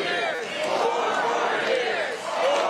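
A rally crowd chants "four more years" together, many voices blending into a steady, somewhat subdued roar that holds for a few seconds without any single speaker standing out.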